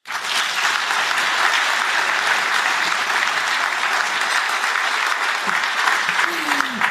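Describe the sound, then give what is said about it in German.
A live audience claps steadily for several seconds, a dense, even wash of many hands at a constant loud level, with no voices standing out over it. “Und damit man die auch einmal hört, bitte einmal klatschen.”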